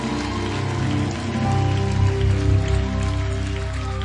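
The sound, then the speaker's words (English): An audience claps hands one more time, as urged, in a dense, steady wash of applause lasting several seconds, swelling slightly midway, with sustained musical tones humming underneath. “So one more time, clap your hands and come on.”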